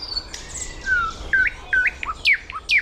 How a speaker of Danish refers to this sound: Skal vi lige gå 5 skridt længere hen, ja, så kan det være, at vi er det allertætteste på nattergalen der. Men jeg tror allerede, lytteren nu kan høre den i baggrunden. Det prøver vi her.